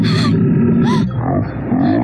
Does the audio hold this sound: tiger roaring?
yes